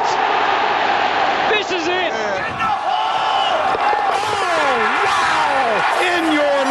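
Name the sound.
stadium crowd cheering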